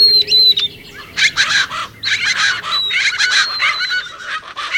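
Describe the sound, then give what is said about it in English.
Several birds call in a lively chorus in winter in the subtropical lower Rio Grande Valley of Texas, with harsh, raucous bursts repeating in quick succession over a thin, high whistle and steady outdoor background. “You're listening to the sounds of winter in the subtropics.”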